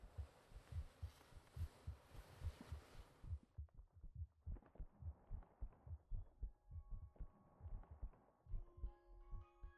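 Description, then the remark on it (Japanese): A steady heartbeat thumps in a regular rhythm throughout, first under a broad hiss that drops away midway, then with faint gurgling stomach noises and squeaky internal body sounds recorded along with the heartbeat. “心音と一緒に撮るとお腹の音が入るのが気になりますね。”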